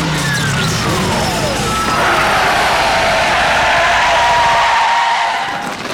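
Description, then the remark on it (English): A vehicle makes an emergency stop for a droid stepping into the road, its tyres screeching in a long, loud skid lasting several seconds, the squeal sliding down in pitch over a rushing engine and road noise. “There's a droid stepping into the road. Emergency stop.”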